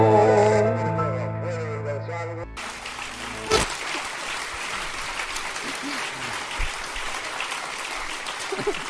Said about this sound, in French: Ah oui, on m'a fait remarquer que je disais trop merci à la fin de chaque chanson, mais en même temps, vous applaudissez à chaque chanson.